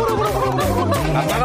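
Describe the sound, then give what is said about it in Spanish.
Loud, continuous turkey-style gobbling on a COPE radio show, a rapid warbling chatter that runs without pause, delivered by voices imitating a turkey over a dense, busy background. “¡Vamos a hacer todos el pavo!”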